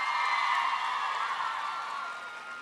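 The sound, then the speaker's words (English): A studio audience claps and cheers as a poll by clapping, in a steady, dense burst of applause that holds for a few seconds and slowly tapers, with no speech over it. “How many of you, by a poll of clapping, want to see Hannah and Peter together at the end of this?”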